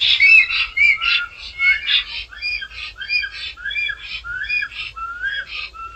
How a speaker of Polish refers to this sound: Po zakończeniu aktu miłosnego samica ulatuje spod samca, a samiec jeszcze sobie gwizdże i świszczy. Dłużej lub krócej, ale gwizdże i świszczy.